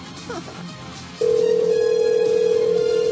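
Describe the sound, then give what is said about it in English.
A telephone tone, before voicemail picks up, cuts in about a second in and holds as a single steady, fairly loud electronic note to the end, over a faint murmur of background noise. “I can't get my phone right now.”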